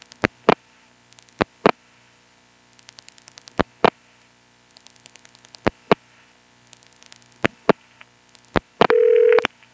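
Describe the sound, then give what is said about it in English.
Telephone dialing of a toll number on a post-pay coin phone over a humming line: sharp clicks arrive in spaced pairs, with a faint crackle between them, then a short steady mid-pitched tone sounds at the very end. “We tried dialing a toll number normally.”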